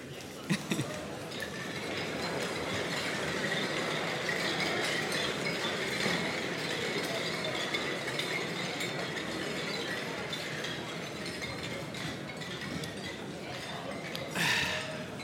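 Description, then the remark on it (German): Glasses clink together in a toast at an evening gathering, several light chinks ringing out over steady crowd chatter and murmuring voices, with a brighter clink near the end. “Da möchte ich jetzt einfach mit euch anstoßen. Prost miteinander.”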